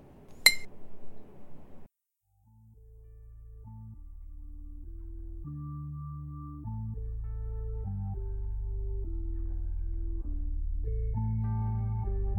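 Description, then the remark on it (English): A single bright glass clink rings out near the start, followed by a brief splashy rush as a drink is poured to refill a glass, then mellow instrumental music takes over for the rest. “Here, refill your glass.”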